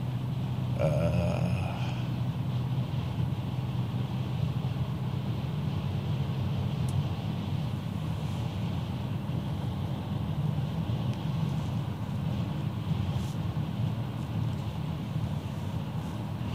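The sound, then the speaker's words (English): A steady, continuous road roar of a car cruising eastbound at highway speed on I-80 in light traffic, with a few vehicles ahead and behind, deep rumble and tire hiss holding constant throughout with no voices, and a brief higher whine near the start. “I do have a few vehicles in front of me and a few vehicles behind me, but other than that, it's clear sailing”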